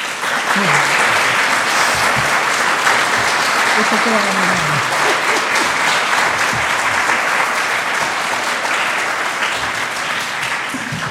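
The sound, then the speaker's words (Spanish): A large crowd in Pilar, Buenos Aires, applauds loudly and steadily for about eleven seconds at the opening of the fifth annual Hispanic-American meeting in 2016, a dense wash of clapping with a few voices calling out underneath. “Desde aquí todos en Pilar, les damos un gran aplauso.”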